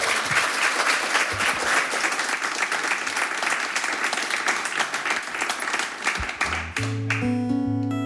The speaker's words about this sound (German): Einen dicken Applaus nochmal für die beiden. Wir freuen uns sehr.